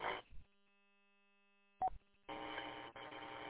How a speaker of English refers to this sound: That phone must have rang.